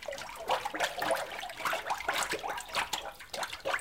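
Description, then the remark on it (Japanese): Watery sloshing and splashing of pulp slurry mixed with paste, rocking back and forth on a papermaking screen in repeated surging waves, fairly steady throughout, as washi paper is made by hand. “その巣の上でね、さっきのそののり混じりのあれが 踊ってます ね。大きな波を立てています。”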